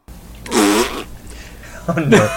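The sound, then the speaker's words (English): Two loud, buzzy fart noises, the first drawn out with a wobbling pitch and the second shorter and rougher, likely made with the mouth rather than the real thing. “It's iguana that farts in a bathtub.”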